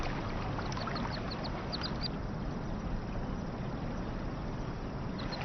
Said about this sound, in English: In the parks of Beijing, mandarin ducks keep a close watch over their young. Believed by the Chinese to pair for life, they have been seen for centuries as a symbol of love and fidelity.